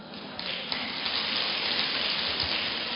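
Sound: audience applause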